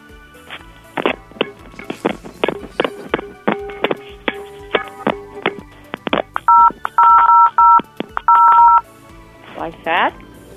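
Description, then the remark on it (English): A rapid, uneven series of sharp clanks as a pan is banged against a phone, with bursts of electronic keypad beeps mixed in near the end. “Yeah, but instead of two pans together, use one pan and the phone and bang those together.”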